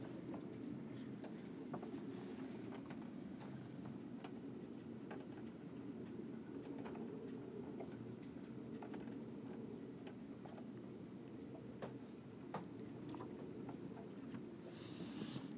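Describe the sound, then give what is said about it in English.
A steady low rumble of wind and water around a sailing boat gently rising up and down and tilting left and right, with scattered creaks and knocks from the rigging and hull as it rocks; no one speaks. “But we did get some good sailing in today.”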